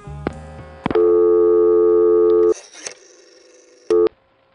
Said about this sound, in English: Did you notice that little burst of dial tone that we heard just as the dial came back to rest?